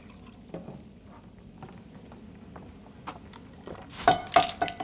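Water is poured into a glass, a short splashy burst near the end after a few faint clinks and drips over a quiet, low rumble.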